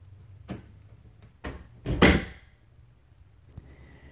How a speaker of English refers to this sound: Let me go close the door.